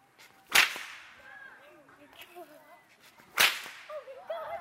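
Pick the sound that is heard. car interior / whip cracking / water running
whip cracking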